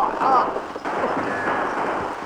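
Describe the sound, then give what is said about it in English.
A chaotic burst of gunfire in a shootout between road agents and a wagon's shotgun guards, dense and loud, with shots blurring into a continuous noisy rumble while voices shout underneath. “Good shooting.”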